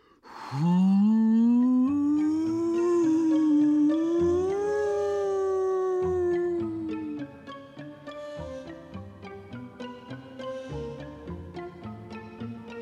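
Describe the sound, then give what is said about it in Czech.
A loud, tonal howl of wind, blown by Pučmeloud down the chimney of the bumblebees Čmelda and Brumda, rises and wavers for about six seconds, then gives way to a quieter, pulsing rhythmic accompaniment with lighter tones. “A šel a fouknul Čmeldovi a Brumdovi do komína.”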